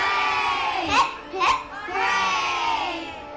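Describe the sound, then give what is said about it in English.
A crowd of high, childlike voices, fairies at a party, cheers together for the fireflies in sustained, overlapping shouts, with two sharper bursts in the middle, loud throughout. “All the fairies cheer, and the fireflies glow even brighter than before, lighting up the sky like stars.”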